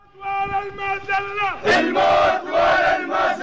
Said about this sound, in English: In this video footage uploaded to YouTube, said to be from a protest in the town of Al-Ramla today, a group of young men chant and set light to a banner of President Bashar al-Assad.